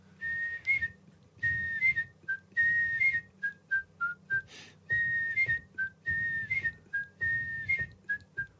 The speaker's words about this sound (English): Oh! 20 years on the telly of the liver birds. Guess whose whistle introduced that? Alan Cumings, the great Scottish actor.